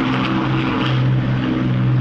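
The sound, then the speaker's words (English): A Lancaster bomber's propeller engines roar loudly and steadily, a deep throbbing drone with a low harmonic hum sustained throughout, as the heavy aircraft takes off from Durham Tees Valley Airport in front of a cheering crowd drowned out by the engines. “You couldn't hear them because of the engine, but cheers here from the crowd at Durham Tees Valley Airport as that Lancaster bomber took to the skies.”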